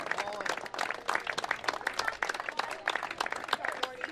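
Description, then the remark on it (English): A baseball crowd applauds steadily as senior player Nolan Nordstrom is subbed out to be recognized, a dense rattle of many hands clapping at once without letting up, while a man's voice talks over the clapping. “As Nolan Nordstrom now will be subbed out as, again, each senior getting their chance here to be recognized by the crowd like that from Coach Brandon Geis.”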